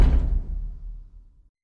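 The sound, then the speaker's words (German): A door is shut with a single solid thud, followed by a low, rumbling resonance that fades out over about a second and a half. No voices are heard. “Mach mal besser die Tür zu.”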